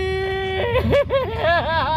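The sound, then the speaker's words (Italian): A man's voice, a caller, imitates a Tarzan yell: a long, loud held note that breaks into rapid, warbling yodel-like swings in pitch, sustained for the whole two seconds. “Sì, credo che questo sia l'urlo che darà il via al giubileo.”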